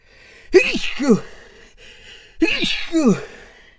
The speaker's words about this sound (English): I'm gonna sneeze. Oh Jesus.